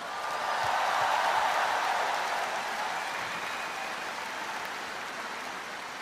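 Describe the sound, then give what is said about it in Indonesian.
A concert audience applauds the Royal Malaysian Navy (TLDM) silent drill platoon from the TLDM Lumut naval base, a dense wash of many hands clapping that swells quickly and holds at a fairly even level for several seconds before easing slightly. “penonton semua, berikan tepukan kepada pasukan kawat senyap TLDM dari pengkalan TLDM Lumut.”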